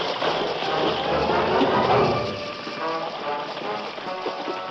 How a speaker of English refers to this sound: The Lone Ranger and Tonto urged the frightened horses along the stream in the oppressive heat through the canyon of flames.